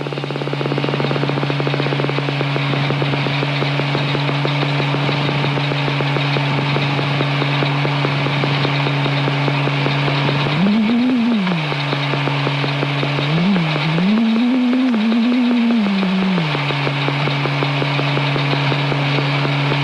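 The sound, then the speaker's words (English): A steady, low electronic biofeedback tone, tracking the output of a forearm EMG integrator, hums continuously, its pitch rising and wavering upward twice before settling back, while a rapid train of clicks tracking the forehead rattles beneath it throughout. No voices are heard. “So the tone will track the forearm. The clicks are tracking the forehead right now.”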